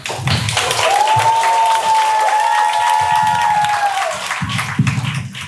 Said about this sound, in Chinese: 因为刚刚导播通知我说特朗普先生还没有走，他要求要返场，虽然也不知道具体是什么原因，那我们还是有请一下吧，好吗？来，掌声有请。